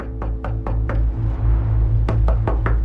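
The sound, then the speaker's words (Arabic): Knocking on the wooden door of a house in two bursts: four quick raps, a short pause, then another four, firm over a low steady rumble. “من أعلى جدار رأى رأس فتاة مغطاة بعباءة تمشي على بعد 5 بيوت، فانطلق نحوها بحذر لكي لا يخيفها، وقرر طرق باب البيت الذي تدخله ليسأل عن رجل البيت.”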